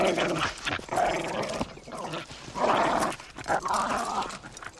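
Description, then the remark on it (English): A dog growls and grumbles playfully in continuous bursts while someone plays with it, with a few yips and whines mixed in, loud with no clear talking. “stop playing with the dog and come and have some lunch.”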